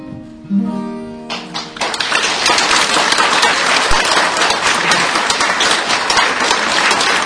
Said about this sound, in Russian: Ну что же, дорогие друзья, наш концерт подошел к концу. Мы благодарим вас за тепло и ваши аплодисменты.